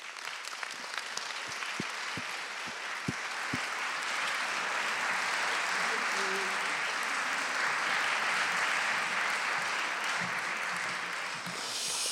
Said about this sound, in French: Je vous demande d'accueillir et d'applaudir Monsieur Christophe Bourseiller.